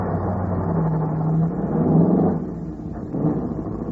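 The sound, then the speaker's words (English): A car engine throbs steadily with a low, rumbling drone as the car drives along, the pitch rising and falling slightly at moderate volume, with no voices. “I drove on. The throbbing of the car's engine seemed to be echoing the sentence that was running over and over again through my mind.”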